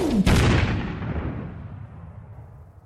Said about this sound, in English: And as his tears fell, so did one more explosion.